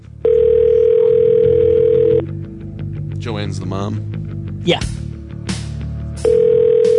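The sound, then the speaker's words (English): An outgoing call rings through a phone line: a long, steady electronic ringback tone, a pause filled with brief conversation, then the tone starting again, loud. “He's probably practicing, and it's probably so loud they don't hear the phone ringing.”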